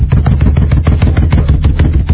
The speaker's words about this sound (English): One of the guys are there shooting darts at us.